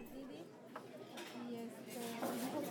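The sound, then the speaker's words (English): Dishes and cutlery clink and rattle steadily at Lux Cafe in Goshen on a Saturday morning, with scattered bright chinks of plates and silverware over a low murmur of indistinct voices. “It's Saturday morning at Lux Cafe in Goshen, and a group of 50 to 60 people just walked through the restaurant's front door.”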